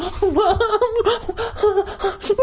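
A voice imitates loud, sobbing gasps: a continuous run of shaky, wavering cries and sharp breaths with no words, rising and falling in pitch for a couple of seconds.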